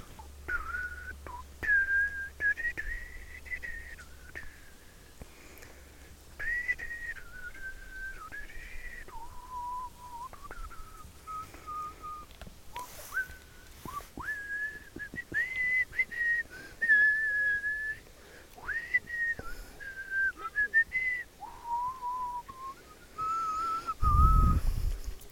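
A person whistles a film theme tune, a slow melody of held, sliding notes carried steadily for the whole stretch, close and clear over a faint low outdoor rumble, with a brief thump near the end.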